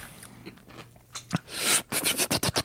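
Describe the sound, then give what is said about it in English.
Someone chews a crunchy spicy chip, starting with quiet nibbling and building to a run of loud, rapid crunches near the end. No talking. “That's what, as I was chewing that little nibble, I was like, I really was afraid to open my mouth that I would just like cough out chip dust or something.”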